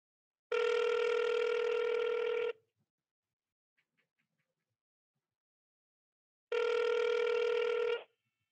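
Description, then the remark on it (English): A phone call rings out as hosts call someone to ask which wide receiver a listener should sit: two long, steady electronic ring tones about four seconds apart, fairly loud, with faint clicks in the quiet gap and no one speaking. “We are going to get the Oracle on the phone, and we will ask her what she thinks.”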